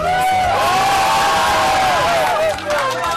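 A crowd of children from a nearby elementary school cheering and shouting at once while running about during the long recess break, many high voices overlapping in a loud, continuous, energetic din.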